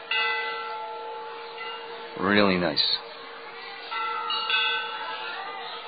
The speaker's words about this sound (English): It would be really nice if somebody could hold that bell and ask them to not ring it while we're having our katha. That would be really, really nice.